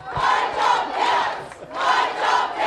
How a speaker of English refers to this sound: A crowd of workers and their supporters kicked off their campaign with a rally in Wollongong today.